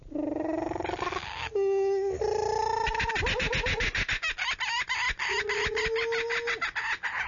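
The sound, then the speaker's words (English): Irwin, a kookaburra, a big bird from Australia, calls loudly, rising hoots breaking into a rapid, raucous cackling chatter that carries on for several seconds with no voices. “And Irwin is a kookaburra, which is a big bird.”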